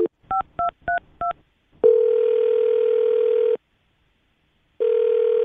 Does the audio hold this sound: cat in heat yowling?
no